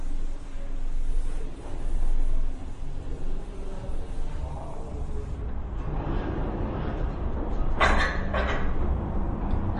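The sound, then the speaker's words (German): Doors being closed, with rustling and shuffling handling noise leading into a couple of sharp knocks and clatters near the end over a steady background rumble. “Und dann machen wir zumindest die Türen wieder zu.”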